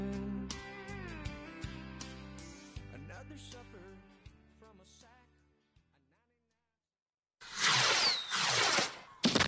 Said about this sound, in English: Fireworks Fridays are back at Segra Stadium all summer long. After every Friday home game, the Woodpeckers will light up the downtown sky with fireworks presented by Q98.